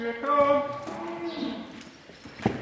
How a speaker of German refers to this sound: Gemächlich steht eine Kuh nach der anderen auf. Die Herde schlurft langsam in Richtung Melkraum.